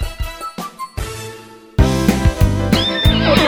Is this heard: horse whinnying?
yes